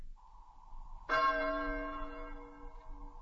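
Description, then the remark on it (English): A single passing bell tolls slowly and heavily, one loud stroke ringing out with a long, shimmering decay before the next stroke begins. No voices, just the bell against faint background rumble. “The passing bell is heard.”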